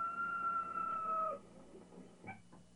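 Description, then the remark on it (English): A rooster crows once, a long, strained call that holds steady for over a second before dropping off, followed by a quieter moment with a couple of faint short sounds. “He told me I'd deny him 3 times before the rooster crowed twice.”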